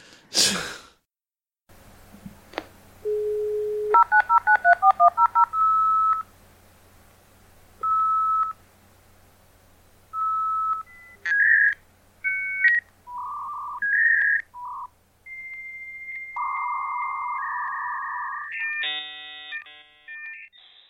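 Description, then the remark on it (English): A dial-up modem connects: a rapid string of touch-tone dialing beeps, then a sequence of steady electronic tones and warbles ending in harsh, buzzing handshake screeches. No one talks over it. “and research in this day and age, it's a lot easier compared to in the earlier days of the internet, we'll brought like a dial-up connection and that, with some kids would never remember the noise of that, or so if someone ever had to use the phone.”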